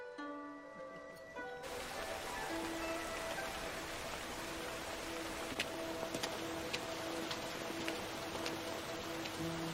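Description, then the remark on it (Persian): Steady rain pours down at night in a dense, even hiss, with occasional sharper drops striking and a faint low tone humming underneath. It starts abruptly after a quieter, tonal opening. “تو این شب بارونی کسی رو نداری بری پیشش؟”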